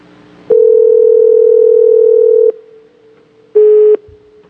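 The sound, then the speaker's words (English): A telephone ringing tone sounds over the line as a call is placed to Germany: a steady, single-pitched electronic tone held for about two seconds, a pause, then a shorter burst. Clear and fairly loud, with no voices. “Ringing.”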